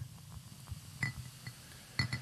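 Beer glugs out into a glass in soft, low, irregular bursts while a couple of sharp glassy clinks ring out along the way, as if a bottle taps the rim. No one speaks.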